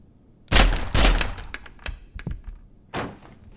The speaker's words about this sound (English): I'm shooting through the door. Wait, what if it's an animal? I'll aim high.